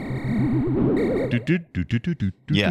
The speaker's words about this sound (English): But what it does sound like is Donkey Kong, which I believe they put Donkey Kong in Radar Scope arcade machines, if I remember our Donkey Kong episode correctly.